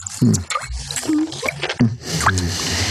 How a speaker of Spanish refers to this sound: Calimán siente la frescura del líquido resbalando por su garganta